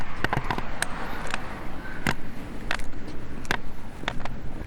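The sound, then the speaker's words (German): A steady wash of cars passing on the street Röthenbacher Landgraben up ahead, heard by a pedestrian on Lindenwiesenweg, a constant traffic rumble broken by sharp, irregular clicks and taps. “Genau, ich muss aber noch auf den Lindenwiesenweg, aber da vorne höre ich schon die nächste Straße am Röthenbacher Landgraben. Fahren Autos.”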